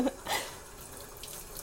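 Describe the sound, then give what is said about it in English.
Running tap water splashes steadily into a sink as dishes and a very hot pan are washed, with a couple of brief clinks near the start as dishes are handled, fairly loud. “Don't you just love doing dishes? Especially with a very hot pan.”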